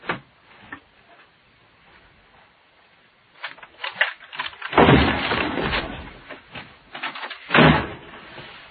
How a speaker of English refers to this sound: open this door while I kick it in.